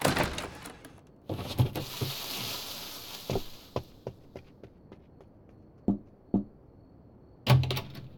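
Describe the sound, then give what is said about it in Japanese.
A window is opened in the cold season: a few wooden clunks, then a soft rushing hiss for a couple of seconds, followed by scattered light knocks and taps and two sharper thumps near the end. “どうしたんだ、窓なんて開けて。”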